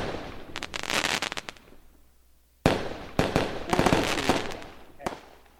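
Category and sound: sound effect, fireworks exploding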